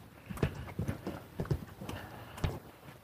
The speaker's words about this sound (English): Boots are squeaking. I hate it when my boots squeak.